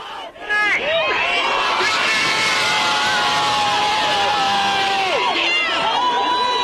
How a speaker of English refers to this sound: Outside the Minneapolis courthouse, crowds erupted in cheers when the verdicts were announced.